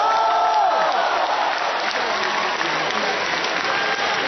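Loud, sustained applause from a large audience at a Deyunshe crosstalk show in Beijing on its season-closing day, for the performance by Yue Yunpeng and Sun Yue. Dense steady clapping fills the whole stretch, with a few brief tonal whistles or voices rising faintly through it at the start.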